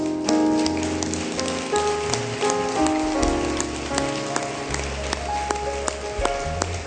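A church audience claps steadily in a dense, crackling wash of many hands as people come forward to the altar for prayer, sustained without pause while keyboard or organ chords and a low bass line play underneath.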